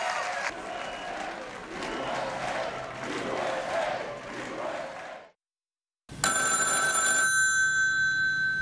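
telephone ringing

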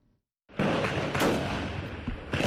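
gunfire

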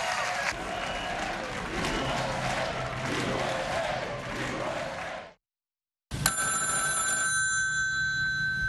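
telephone ringing

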